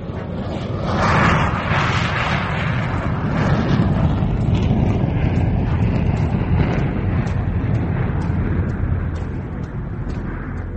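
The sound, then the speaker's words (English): A loud, steady jet engine roar of a plane boarded at Melbourne International, headed for London, fills the whole stretch, a dense rumbling wash of noise that swells slightly early on and holds without a break, no voices present. “I locked the pain away and got aboard a plane at Melbourne International.”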